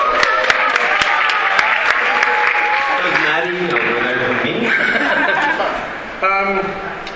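A crowd at a show breaks into sustained applause for a helper being thanked, dense clapping at first, then cheering, whoops and chatter rising through it while the clapping continues at a steady loud level.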